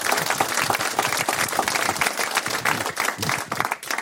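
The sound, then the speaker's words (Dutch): An audience applauds steadily, a dense wash of many hands clapping at once with no pauses, sustained at a fairly loud, even level throughout. “Dus jongens, nogmaals enorm applaus voor al deze mensen die het mogelijk hebben gemaakt.”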